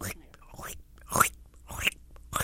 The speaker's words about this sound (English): And the second they hit the ground, they're eating. It's incredible to watch. It's kind of like watching marbles scatter when you drop them on pavement. And the goats just start munching everything in sight. And it sounds like locusts.